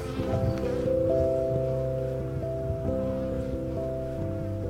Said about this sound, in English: Look at this bee. She's like hauling around the edge of the hive. She's funny.